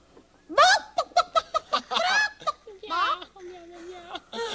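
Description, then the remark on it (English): A child's voice imitates a chicken, letting out a quick run of sharp, rhythmic clucks, then trailing into a longer drawn-out squawk. “I wish that you would turn into a chicken.”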